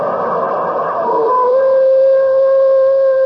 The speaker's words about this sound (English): What in the world is that stuff? Well, that's the coyote's mating call. Mating call? Sure sounds like they hate to get married, doesn't it?